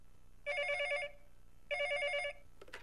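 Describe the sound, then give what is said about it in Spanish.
A telephone rings twice, each burst a rapid trilling electronic warble lasting about half a second, separated by a pause. The tone is bright and fairly loud, with no one speaking. “Maruchi, te llaman por teléfono, es tu amiga Paloma.”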